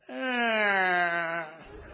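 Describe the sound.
A voice imitates a creaking door: one long, drawn-out moaning tone that slowly slides downward in pitch for about a second and a half, then gives way to soft, breathy noise.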